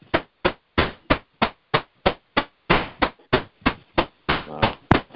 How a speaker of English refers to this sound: By the way, can everybody mute? Somebody mute who's hammering? It might be an internet call.